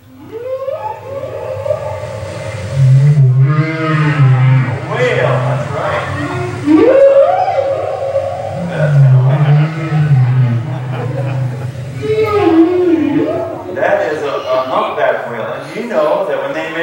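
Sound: whale vocalization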